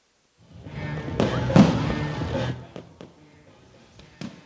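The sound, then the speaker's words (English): Fireworks bang outdoors at Lone Mart Field, a ballpark, on a firework night at a Rawhide Baseball game, over a broad rumbling wash, with several sharp cracks and booms spaced irregularly, a couple louder pops standing out before the noise thins near the end. “Get ready to wrap things up here on this firework night here at Lone Mart Field.”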